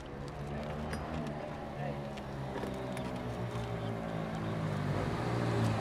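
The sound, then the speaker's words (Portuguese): Steady street traffic rumbles at a covered bus stop on Avenida Sapopemba, in front of a supermarket, a low engine drone filling the scene and swelling slightly toward the end as a vehicle approaches, with faint murmuring voices mixed into the background. “É, aqui a gente está no ponto de ônibus da Avenida Sapopemba, em frente ao supermercado.”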